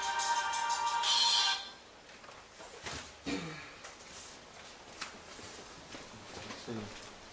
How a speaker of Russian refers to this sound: Ой, извините. Сейчас, извините, у меня телефон зазвонился.